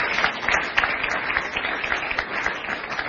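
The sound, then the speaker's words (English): Sustained applause from a church audience welcoming a visiting pastor from Scotland, a dense, steady wash of many hands clapping at once with no pauses and no voices standing out. “As you clap, you walk faster.”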